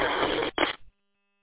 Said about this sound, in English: Okay, yeah, I could just barely make that out over the interference there on Detroit. If that interference wasn't there, I'd be able to get you no problem, but you're not really making it over that noise.